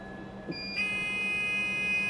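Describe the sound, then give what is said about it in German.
A steady electronic warning tone, high and piercing with layered pitches, starts after a brief click and holds continuously over a low vehicle hum as the doors close and the Cube, a driverless minibus resembling a short tram, slowly sets off. “Die Türen schließen und mit einem Warnsignal setzt sich der Cube langsam in Bewegung.”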